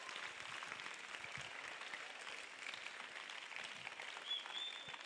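An audience breaks into sustained applause for Jesus, dense steady clapping from many hands filling the whole stretch at an even, moderately loud level with no voices rising above it.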